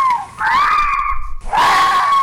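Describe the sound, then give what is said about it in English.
Two drawn-out, harsh screams of foxes outside at night, each a loud, wavering, high-pitched wail about a second long, separated by a brief pause, with no talking. “and you just think something terrible is happening outside, but actually they're really enjoying it. Yeah. Oh, it's the sounds of joy for foxes.”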